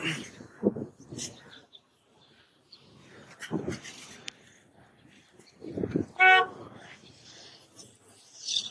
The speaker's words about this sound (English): Some idiot was honking at me.